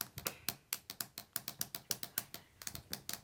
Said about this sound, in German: Ich habe zwei Feinliner rausgeholt. Man kann zwei Geräusche damit machen. Man kann die Deckel ab und wieder drauf machen. Oder man kann auf dem Boden trommeln.